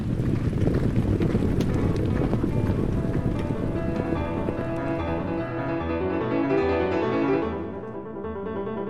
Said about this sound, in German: Und die Töne haben irgendwie so einen Rhythmus mit dem Rennen. Ich finde den Rhythmus ein bisschen musikalisch. Und wenn die Pferde halt ein Rennen rennen, dann hört man auch so einen Rhythmus.